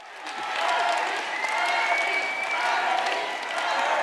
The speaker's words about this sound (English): That chant, of course, for Bernie Sanders went on for a while